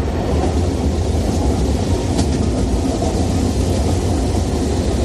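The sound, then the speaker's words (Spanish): A train rolls past, a loud, steady rumble and rush of wheels on track that holds for the whole stretch, with no voices over it. “Y la tercera opción son los trenes.”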